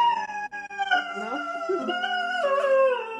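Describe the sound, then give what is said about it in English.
A pet dog howls in long, wavering notes that slide up and down, fairly loud, singing along with sustained piano tones being played underneath; no one speaks. “Well, making music with my dog is one of my motivations to learn music, and I love that she cooperates with my piano and sings, and she's the centre of our lives.”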